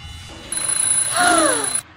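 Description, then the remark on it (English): An old-fashioned alarm clock bursts into loud, continuous metallic ringing, rattling for just over a second before stopping abruptly. “Be careful not to bump the old-fashioned alarm clock.”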